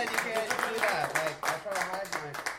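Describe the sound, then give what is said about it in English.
A crowd applauds steadily for a prize-draw winner who has won a second time, a dense wash of clapping running throughout, with voices cheering and talking over it. “You you can applaud her again, you guys.”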